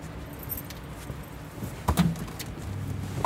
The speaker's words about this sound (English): are getting out of the car to change sides. And they're going to drive away with me sitting in the back.